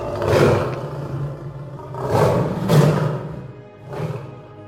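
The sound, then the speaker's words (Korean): A lion roars loudly, letting out several deep, rumbling bursts over a few seconds, each swelling and fading with short gaps between them, with no talking. This is the Lion roaring at the Wizard in a reading of The Wizard of Oz. “사자는 마법사가 무서웠지만 아주 우렁차게 울부짖었다.”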